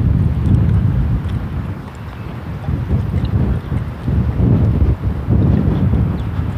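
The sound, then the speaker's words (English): Strong gusting wind from an approaching big gust front roars across the microphone, a loud, rumbling buffet that swells and eases in uneven surges without pause, with no voices present. “I'm just coming right out of the northeast. And that big gust front is...”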